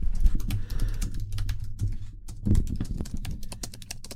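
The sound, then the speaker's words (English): Rapid, uneven clicking of keys on a computer keyboard, steady for several seconds, with bursts of quick taps and a faint low hum underneath; a woman typing out the first page of a written pitch as she reads it. “But she's actually typing.”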